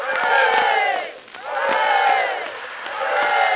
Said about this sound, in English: Ah, there, boys and girls, here comes the excursion boat. Let's give three hearty cheers for the pride of the Mississippi.